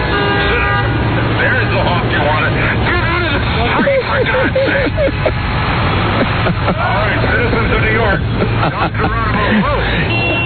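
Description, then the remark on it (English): Car horns honk amid busy New York street traffic, with a steady drone of engines and a babble of voices from a crowd; the honks are loud and recur over the din. “There's the honk you wanted.”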